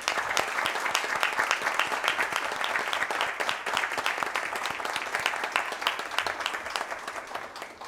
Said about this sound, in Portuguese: Declaro empossada a nova mesa diretora para o período legislativo 2024, com início em 1º de janeiro de 2023. Solicito uma salva de palmas à nova mesa diretora.